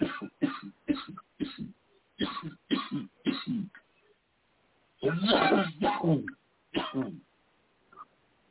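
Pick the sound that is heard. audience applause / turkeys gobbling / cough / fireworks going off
cough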